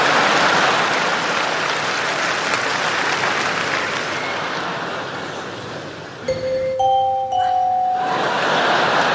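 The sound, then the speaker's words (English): A loud wash of applause-like crowd noise gives way to a clear two-note doorbell chime, rising by a tense tritone, the augmented fourth known as the devil's interval, before the noisy crowd sound swells back in. “And that is highly effective as a doorbell, see?”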